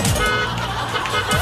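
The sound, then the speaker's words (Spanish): A car horn blares loudly, held as one long continuous honk over the rumble of a vehicle, while a man maneuvers his vehicle. “Oye, deja de tocar la bocina si el caballero está haciendo la maniobra.”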